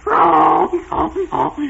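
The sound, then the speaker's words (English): A person imitates a cat: one long, wavering meow, followed by two shorter, lower mews with brief pauses between them, all moderately loud. “The something made a noise like this.”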